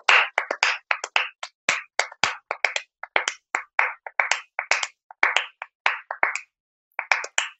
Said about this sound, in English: probably played this with your students when you clap a song and see if they can recognise what song you're clapping just from the rhythm. So we've often done this. I'll do it this way. So what is this piece? Hard to recognize, but what if I clap it?